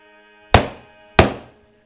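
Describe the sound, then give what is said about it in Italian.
Two heavy axe blows land a little over half a second apart, each a loud, sharp thwack that rings out briefly before fading, with no voices present. “poi due grossi colpi d'accetta.”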